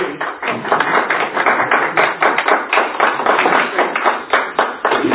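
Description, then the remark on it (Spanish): Audience applause: many hands clapping in a dense, steady patter that holds at a fairly loud, even level for about five seconds, with no voices over it. “aplauso. Gracias.”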